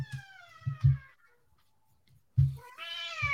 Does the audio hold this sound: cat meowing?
yes